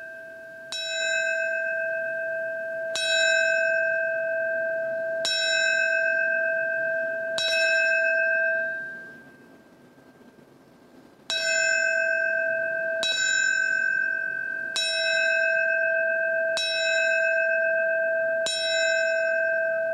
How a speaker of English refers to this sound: The ceremony will start with the ringing of the New York City Fire Department bell. It will ring 20 times in four sets of five rings, the traditional signal for a fallen firefighter.